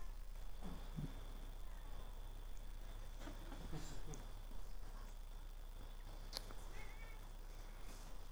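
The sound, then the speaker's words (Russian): A cat meows several times at irregular intervals, its cries fairly faint over a steady low electrical hum and quiet background noise. “Умирают, конечно, даже вот коты. Эй, иди отсюда.”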